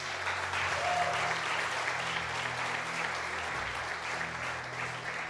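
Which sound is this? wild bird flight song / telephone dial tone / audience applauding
audience applauding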